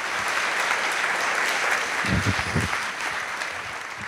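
An audience applauds steadily, a dense wash of many hands clapping at an even level throughout, with a few low murmurs or cheers rising briefly in the middle.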